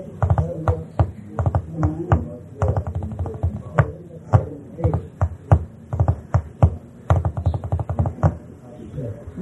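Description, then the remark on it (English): Rapid, uneven tapping of all fingers on a hard surface, fairly loud, coming in quick bursts and flurries throughout with brief pauses between. “So you think the knock was similar to that?”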